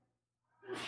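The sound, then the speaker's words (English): A sudden breathy sneeze bursts out after a brief hush, its hissy rush swelling loud at the very end with no talking around it. “Bless you.”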